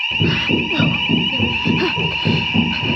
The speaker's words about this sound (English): The fire alarm!